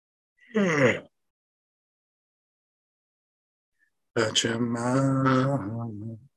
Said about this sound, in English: After I yawn.